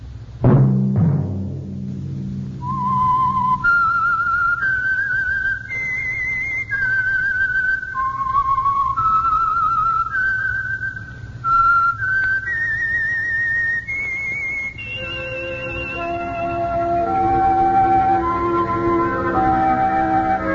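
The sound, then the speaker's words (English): A lone person whistles a slow, eerie melody, sustained clear notes stepping up and down in a haunting tune, with a low orchestral backing rising underneath toward the end. It is the whistled theme signalling the Signal Oil Company's radio program The Whistler. “Whistle be your signal for the Signal Oil program, The Whistler, each Sunday night at this same time.”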